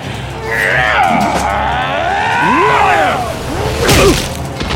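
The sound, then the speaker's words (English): A single sharp bullwhip crack snaps near the end of a fight, preceded by a brief swish, while strained, groaning vocal sounds rise and fall throughout. “Let go of my whip!”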